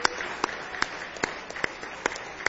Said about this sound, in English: Oh, give Him another hand clap of praise.